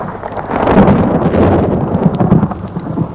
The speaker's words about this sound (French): Une nuit d'orage. Il fait particulièrement chaud. On entend surtout le tonnerre, mais rien de plus.